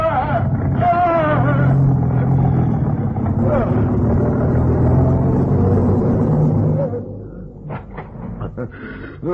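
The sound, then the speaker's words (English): A car engine revs loudly and steadily for several seconds as the car reverses off a man pinned beneath it, then drops away abruptly, leaving a few scattered knocks. Voices can be faintly heard beneath the engine. “I'll reverse the car.”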